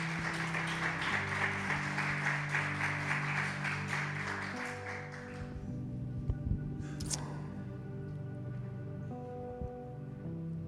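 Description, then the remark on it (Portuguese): A church audience claps in praise to the Lord during a sermon, a dense, steady burst for about five seconds before it fades out, while sustained keyboard chords hold underneath and carry on after the clapping ends. “Podemos dar uma salva de palmas ao Senhor?”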